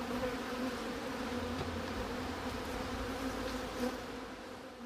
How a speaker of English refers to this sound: I'm keeping on my protective stuff, and so are you, because the bees have followed us back, some of them. There's one there.